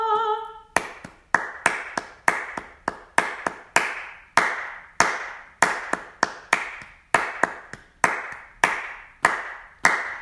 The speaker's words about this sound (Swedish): Klappa händer alla folk, hylla Gud med jubelrop.